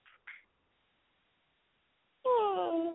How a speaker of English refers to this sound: What are you doing, Rocky? Hey, buddy. What are you doing? What are you meowing at?